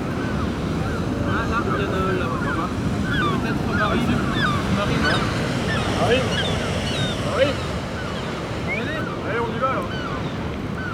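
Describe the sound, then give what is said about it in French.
Many gulls call over one another in a steady chorus of short squawks and cries during a capture of the gulls, set against a constant rush of surf and wind by the shore. “Pour la capture des goélands.”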